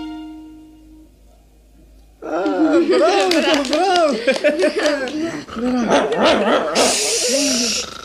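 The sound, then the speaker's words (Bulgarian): After a quiet start, a dog that has just woken up erupts into a long, loud run of barks, yips and whimpering whines, with hardly a pause for several seconds. “Тихо! Проклетото куче се събуди!”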